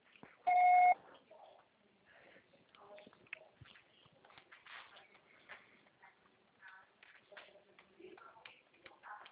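voicemail recording beep

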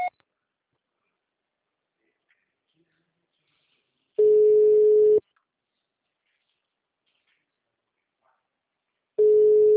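telephone signal tone

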